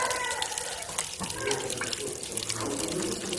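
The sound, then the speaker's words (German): A steady, continuous trickle of strong alcohol running and splashing, like a thin stream pouring into a container holding 32 liters, with a few brief clinks and drips standing out from the constant flow. “Ja, läuft und läuft und läuft.”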